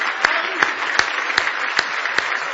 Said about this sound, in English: Let's give Jesus a big hand clap of praise tonight.